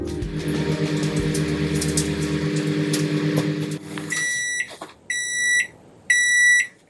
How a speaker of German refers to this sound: Oh, ich glaube, da kriege ich was frisch aus der Mikrowelle geliefert. Und wie es dampft und duftet.